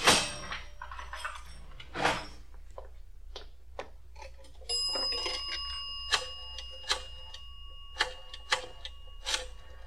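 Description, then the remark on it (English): A cash register bell at the Last Chance Diner rings out with a bright, steady metallic tone that hangs for several seconds as a dime is taken from the register, amid a scatter of sharp mechanical clicks and clatters before and after. “Take a dime from the cash register.”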